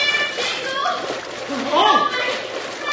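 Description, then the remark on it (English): Loud, continuous splashing and churning of river rapids below a collapsed bridge, into which horses, a heavy freight wagon and riders have plunged, a steady rushing roar, with a brief wordless voice rising and falling beneath the water noise. “the timbers, cut by one shot, gave out, plunging horses, wagon, and riders into the rapids below.”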